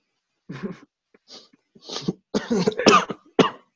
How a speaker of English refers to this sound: Sorry. Ah, don't cough. I think your germ spread through your wires into my.